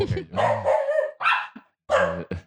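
Pet dogs at home bark in a few loud, sharp bursts, with a short gap between them and a couple of quick yips at the end, standing alone without anyone talking.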